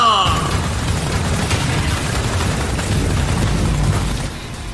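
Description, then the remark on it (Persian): A dense, continuous barrage of gunfire firing golden bullets rattles on for several seconds, loud, with rapid overlapping shots and booming low rumble that cuts off near the end. “متاسفانه هنوز کلی تیر دارم. گلوله های طلایی. اینو داشته با تیر باران طلا.”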